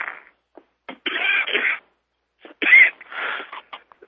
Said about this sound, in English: Excuse me, folks, for coughing.